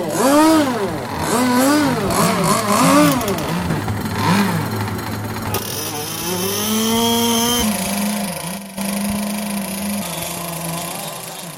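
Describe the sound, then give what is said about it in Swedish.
Several small boat engines are started and rev up and down with wavering whines, overlapping at first, then settling into a steadier, loud droning hum throughout. “Klockan går. Motorerna startas.”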